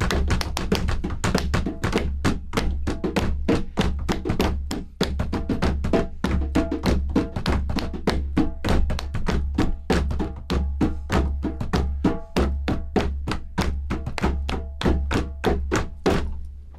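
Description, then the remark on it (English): A group in a drum circle drums with their hands on a table in a steady, driving rhythm, many loud sharp taps layered with low thumping hits, continuing for the whole stretch with no talking. “So you can take your hands. You can clap. Maybe use the table.”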